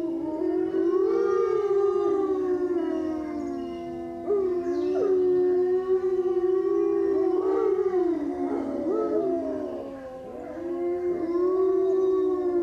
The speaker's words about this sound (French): C'est une meute avec des louveteaux qu'on peut entendre qui sont beaucoup plus aigus.